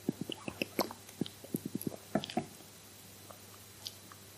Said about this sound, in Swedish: Jag ska bara ta en klunk här.